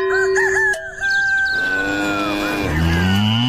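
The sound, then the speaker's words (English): A short rooster-like crow opens, then a long, loud cow moo swells and drops into a deep, drawn-out low tone at the end, with no talking. “Listen, I hear a cow.”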